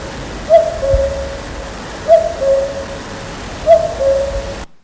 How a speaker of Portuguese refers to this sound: Estamos en primavera. Escoitas o cuco cantar.